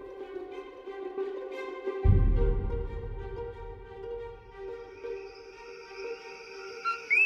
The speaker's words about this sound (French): Je vous disais que les grenouilles Eleutherodactylus coqui sont célèbres pour les chants des messieurs grenouilles, ces chants de troubadours lancés dans la nuit qui tentent nuit après nuit de séduire leurs belles. Ce chant semble très simple.